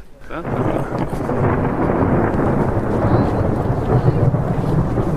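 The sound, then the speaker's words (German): A deep, sustained rumble of thunder rolls on for several seconds, loud and broad, with steady rain-like hiss underneath and no clear break in the roar. “Großartig. Der Donner. Da ist er.”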